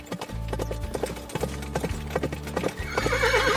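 horse approaching

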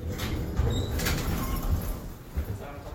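elevator doors sliding open

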